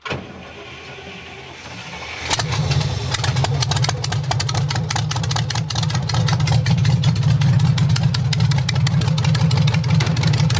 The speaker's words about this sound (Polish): Tłumików oczywiście żadnych, tylko rury. Takie krótkie, kręcone wydechy. Troszeczkę dymi, zimny silnik.